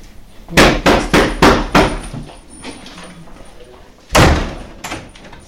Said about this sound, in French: Alors, tu voudrais bien entrer, enfin frapper très fort sur la porte et entrer vite.